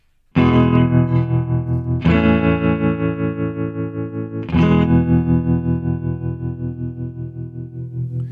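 A Stratocaster electric guitar strums three chords, each ringing out long with a steady wavering pulse from its built-in vibrato and a wash of reverb, played alone and fairly loud.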